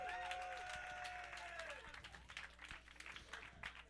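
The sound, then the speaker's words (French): An audience claps for the technician Nicolas Davio in a dense, steady burst of applause lasting several seconds, with a high sustained cheer or whistle riding over the first half before the clapping continues alone. “Et évidemment, après le succulent Bruno, le délicieux technicien Nicolas Davio, une bonne main d'applaudissement pour lui.”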